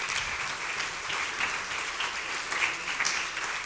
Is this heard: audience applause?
yes